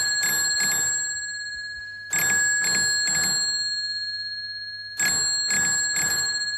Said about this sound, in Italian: Dall'altra parte della villa dei Celestini il campanello suona, è nata la radio, perché di fatto per la prima volta il segnale radio supera un ostacolo.